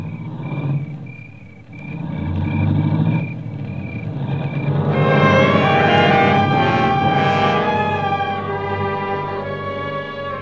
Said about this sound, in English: I heard the car leave, and I knew what it meant.